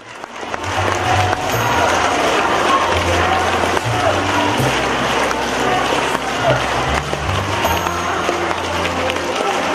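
Loud, sustained audience applause welcoming station head Lu Junhong, a dense steady roar of many hands clapping, with faint low tones humming underneath.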